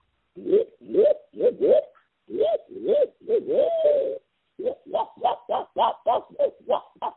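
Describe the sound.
An imitated owl hooting call, done early in the morning as a locator call when hunting turkeys, a rapid rhythmic series of loud, nasal hoots in two bursts with a short pause between, clear with no talking.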